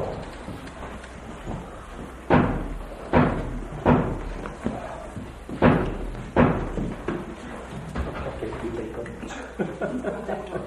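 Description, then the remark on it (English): A door bangs shut as someone goes out through it, in a run of loud, heavy thuds, about five sharp slams spread over a few seconds, over a low murmur of room noise. “Somebody just did go out that door?”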